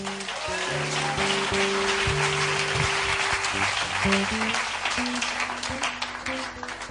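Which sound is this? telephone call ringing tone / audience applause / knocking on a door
audience applause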